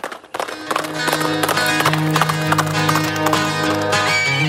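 Hooves clip-clop in a steady, quick rhythm over loud, full music playing on Fresh FM radio, and a horse's neigh rises briefly above them near the end.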